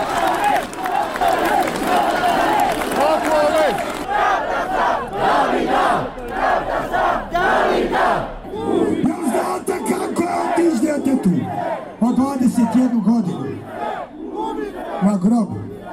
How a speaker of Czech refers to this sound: Na skupu nije bilo incidenata, a evo djelića atmosfere građana koji su protestovali zbog ubistva mladića Davida Dragičevića.